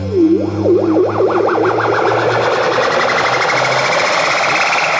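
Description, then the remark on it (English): A loud synthesized riser, made in a studio for an album, sweeps upward as a tone going from one place to another and ascending. It wobbles in fast repeated oscillations that climb steadily in pitch over a droning low hum and gritty distorted texture, with no voices. “make him a bunch of risers”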